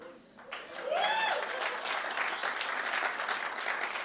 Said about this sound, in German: Müsst nicht klatschen